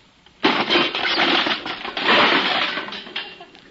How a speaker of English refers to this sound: you smashed the whole birdhouse. Yeah, so I see.